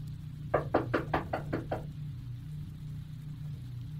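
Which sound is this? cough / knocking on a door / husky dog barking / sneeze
knocking on a door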